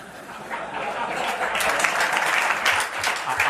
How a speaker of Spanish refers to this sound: Aclaremos que los aplausos son de su junta directiva. No de los periodistas. En las primeras filas estaban su junta directiva